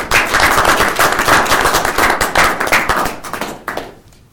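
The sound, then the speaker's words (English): A crowd breaks into a round of applause for a staff member, many hands clapping in a dense, steady patter for several seconds before it thins out and fades away. No one speaks. “I think we should give her a round of applause.”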